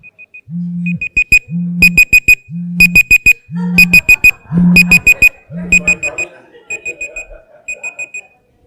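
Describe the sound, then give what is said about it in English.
A cell phone alarm goes off in a church, signaling that time is up, repeating bursts of high electronic beeps over a low buzzing tone at a steady rhythm, with muffled voices rising partway through before the beeping fades. “Time's up. Too soon. No cell phones in church.”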